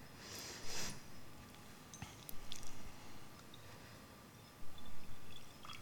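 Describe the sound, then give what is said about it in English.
Vinegar being poured into a container, about half of it into the bottom, heard as soft, intermittent splashing and trickling bursts, fairly quiet, with no talking. “do you want to pour that in? Okay, about half of it into the bottom there.”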